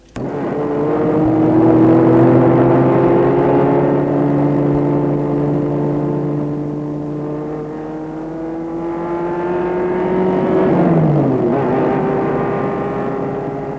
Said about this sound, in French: Elle arrête la voiture devant un hôtel chalet en pleine forêt.